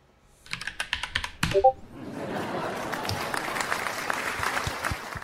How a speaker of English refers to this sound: Lots of claps in that one.